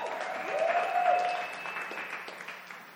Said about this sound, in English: I love our media team. I didn't even tell them I was doing this. That is really fast. Can we just give our media team a round of applause?